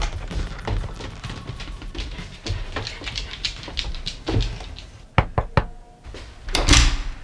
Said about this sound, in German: Sie gingen die Treppe hinauf und klopften an ihrem Zimmer.